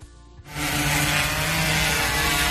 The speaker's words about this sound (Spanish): Una veintena de drones, Antonio, que así sonaban y que han vigilado desde el aire los espacios más concurridos como plazas, calles y parques como el de Atenas y los alrededores de Madrid-Río.